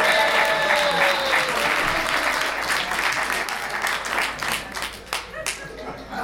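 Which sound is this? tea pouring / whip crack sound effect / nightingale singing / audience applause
audience applause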